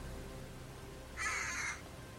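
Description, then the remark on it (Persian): A single harsh, screeching eagle cry rings out for about half a second, loud, over a faint steady background hiss with no talking. The eagle sits on a messenger's shoulder. “قاصد یه عقاب روی شونشه جلو میاد.”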